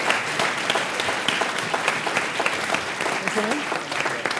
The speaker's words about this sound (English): Round of applause, please, for our brave man.